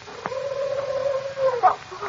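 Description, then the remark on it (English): An owl hoots once: a single long, steady, mid-low note held for over a second, followed by a brief higher squeak, heard alone over faint background hiss. “Just a hoot owl, Betty.”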